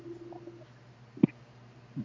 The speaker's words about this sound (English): What are you microwaving? You got some Hot Pockets? I'm making some coffee. In the microwave? Yeah, I just heat water and drink instant coffee.